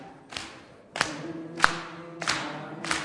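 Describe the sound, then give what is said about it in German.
A worship group claps lightly in unison with three fingers, five soft, even claps about two-thirds of a second apart, each ringing briefly with reverberation, with no talking. “Okay, nur 3 Finger, nur klatschen, nur klatschen.”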